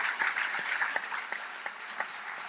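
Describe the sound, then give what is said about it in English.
An audience applauds Ta-Nehisi Coates and James Bennett at the close of a conversation, in a dense, steady wash of clapping that gradually thins out, leaving a few sharper individual claps standing out toward the end. No one speaks. “Please join me in a warm round of applause for Ta-Nehisi Coates, for James Bennett.”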